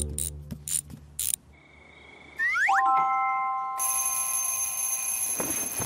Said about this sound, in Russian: Мы встанем утром, когда прозвонит будильник.